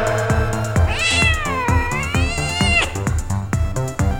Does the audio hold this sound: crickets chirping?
no